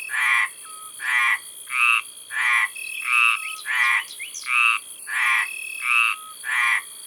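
Loud Mediterranean tree frogs croaking in a steady rhythm, about ten harsh calls spaced under a second apart, with no voices present. Two males in a pond in southern France at 11 pm on June 10, each calling in turn to defend his own part of the pond.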